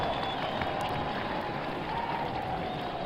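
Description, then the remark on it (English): A large crowd at a presidential inauguration cheers and applauds in greeting, a steady, dense roar of clapping and voices that holds at an even loudness for the full three seconds without a pause. “Eyes of greeting and good wishes from the crowd.”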